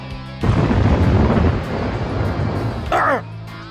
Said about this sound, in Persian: جادوی روح باد، طوفان روح.